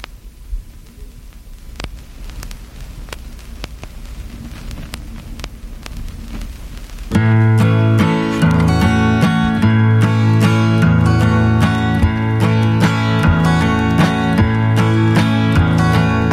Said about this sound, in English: Bring up the volume on the record player. There you go.